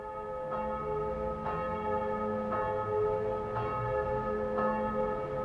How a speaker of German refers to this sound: 1980 in der Karlsruher Glocken- und Kunstgießerei gegossene Anna-Glocke.